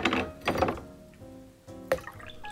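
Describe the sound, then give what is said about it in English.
Water is swirled to warm a small ceramic drinking glass, about the size of a double shot glass, then tipped into a tea stand reservoir in a few quick splashing bursts, with light clinks and a faint ringing tone between them, without talk. “Give the liquid a quick swirl to warm your glass and pour away into the tea stand reservoir.”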